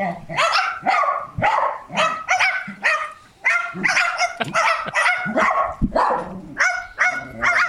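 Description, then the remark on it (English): Rapid, overlapping barks fill the whole stretch, a couple of dogs barking at the gate of a family home in South Africa in quick bursts while a parrot joins in with its own bark-like imitations, the calls blending into a continuous noisy chorus. “This is the audio of parrot barking like a dog with the dogs.”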